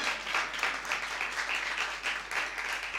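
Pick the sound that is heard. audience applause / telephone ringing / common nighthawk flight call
audience applause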